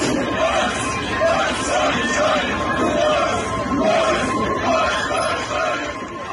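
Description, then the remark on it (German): A large concert crowd joins in the chant "Ost, Ost, Ostdeutschland", loud repeated shouted syllables in a steady rhythm over a constant roar of voices. “Das Publikum stimmt in den Schlachtruf ein.”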